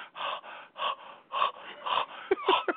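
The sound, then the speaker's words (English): A voice imitates heavy asthmatic wheezing, with a series of loud, raspy, strained breaths in and out, ending in a few quick sharp gasps. “Like an asthmatic.”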